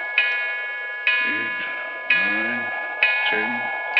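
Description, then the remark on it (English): A clock strikes twelve for midnight with deep, ringing bell strokes, about one per second, each tone sustaining and overlapping the next, while a low voice murmurs faintly between strokes. “What a clock. Sounds like the knell of doom.”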